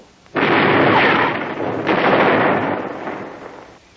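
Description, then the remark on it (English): A heavy, roaring broadside of a ship's cannons erupts and rumbles on, with a second booming shot rolling in partway through before the roar slowly fades out. “Give him another broadside.”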